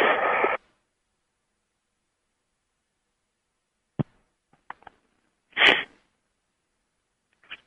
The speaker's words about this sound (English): And there is one of my sniffs. Excuse me,